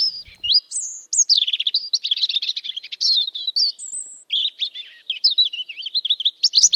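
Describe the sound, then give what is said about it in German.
A European robin sings a continuous, fluid song of high, rapid warbling phrases and thin trills, clear with no other sounds around it. “Ja, interessant ist beim Rotkehlchen, dass es auch ab und zu nachts singt.”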